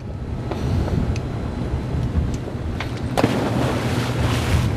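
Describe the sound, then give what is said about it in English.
Steady wind buffets the microphone over a low rumble of engine and sloshing water, with occasional splashes and bumps from a catamaran moving across the Pacific off the coast of Gersel Cove, about 100 miles north of San Francisco, California. No one speaks. “KQED's Danielle Venton brings us the story from aboard a boat on the Pacific.”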